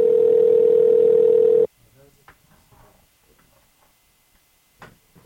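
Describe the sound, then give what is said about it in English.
A loud, steady electronic phone ringing tone from a call being placed again holds one pitch for under two seconds, then cuts off abruptly, leaving faint, muffled voices and quiet background noise. “Oh, yeah, it's ringing.”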